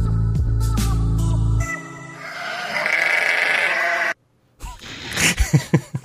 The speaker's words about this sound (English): I like that one. Sheep. That's the sheepies. That's the sheepies. I like that.